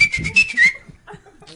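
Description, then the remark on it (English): A person whistles a short, bright wavering note, sliding up near the end, with breathy chuckling underneath; the whistle stops after under a second, leaving quiet murmurs. “Stop whistling.”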